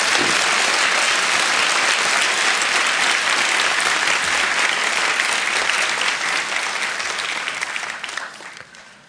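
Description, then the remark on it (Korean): An audience applauds to give glory to the Lord during worship: a dense, sustained wash of clapping with no talking over it, holding strong for most of the stretch before tapering off toward the end. “우리 하나님 앞에 함께 예배드릴 수 있도록 또 여기까지 건강 주시고 은혜 주신 주님께 다시 한번 박수로 영광을 돌리겠습니다.”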